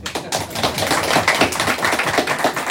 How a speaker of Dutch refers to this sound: Applaus.